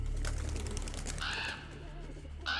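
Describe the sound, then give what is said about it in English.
Two harsh raven caws ring out a second apart outside the Jefferson Hotel in Jefferson, the second cut short, over a steady low rumble and faint background noise with no one speaking. “They heard a shifting in the wall and the caw of a raven outside, and quickly decided to find other accommodations.”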